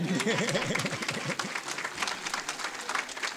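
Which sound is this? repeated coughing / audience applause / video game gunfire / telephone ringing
audience applause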